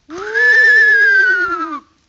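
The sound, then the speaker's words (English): A horse gives a single loud neigh lasting under two seconds, a steady, bright whinny that sags slightly in pitch before cutting off. No one speaks over it. “Nice horse, isn't he, Uncle?”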